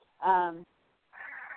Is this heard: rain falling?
no